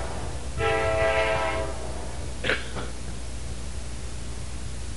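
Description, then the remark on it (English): A passing train's horn blares for about a second over a steady low rumble, followed by a brief sharper blast, then the rumble continues on its own. “Time out for the train.”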